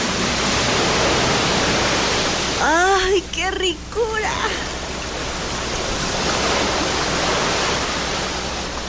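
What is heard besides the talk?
ocean waves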